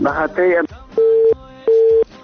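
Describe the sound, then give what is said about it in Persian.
A brief voice is followed by a telephone busy tone after a caller's phone call is cut off: two steady, evenly spaced beeps at a single low pitch, each lasting about a third of a second, clear and fairly loud. “متاسفانه که تماس برادر ما قطع شد، میخواستن شماری خود اعلان بکنن اما تماسشان قطع شد.”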